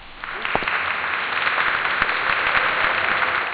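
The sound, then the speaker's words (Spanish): A round of applause from a crowd in a prison, sounding as the first door of the gate is passed, dense and steady, rising quickly after a brief start and sustaining throughout at a fairly loud level. “Al atravesar la primera puerta del rastrillo, recuerdo que sonó una salva de aplausos.”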